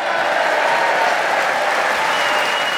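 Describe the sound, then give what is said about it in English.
A Brighton audience at the Theatre Royal in Brighton, Sussex, applauds and cheers at the start of a Just a Minute show, a dense, unbroken wash of clapping with cheering mixed in, loud and sustained throughout with no talking. “And as you can hear, we have a vociferous, keen Brighton audience here representing this cosmopolitan area who are going to cheer us on our way as we begin the show this week with Clement Freud.”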